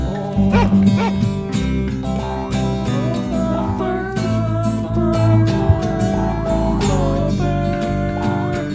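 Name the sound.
puppy barking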